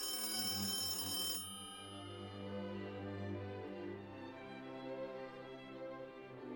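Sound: telephone bell ringing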